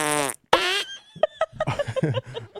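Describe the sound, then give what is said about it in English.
Two short, squeaky little fart sounds, high and tight, one right after the other, followed by people laughing and talking. “Girls got, because their butts are so tight, they got a little.”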